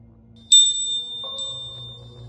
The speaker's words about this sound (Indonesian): Hampir setiap beberapa jam sekali, dia selalu minta dibawakan makan oleh ibunya dengan cara membunyikan lonceng itu.